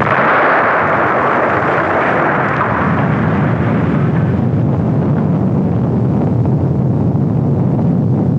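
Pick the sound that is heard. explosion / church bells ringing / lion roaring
explosion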